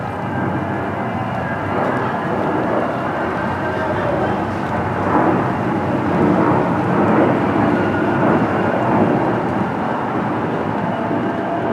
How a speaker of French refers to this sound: Fin juin, au début de l'été. Le ciel pleure, les avions vrombissent avant que des F-16 ne passent plus tard au niveau du sol.